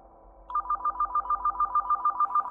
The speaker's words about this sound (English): I was on guard when the phone rang.